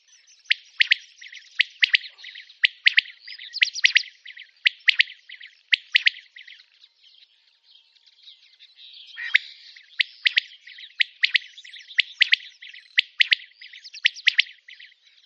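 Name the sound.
common quail call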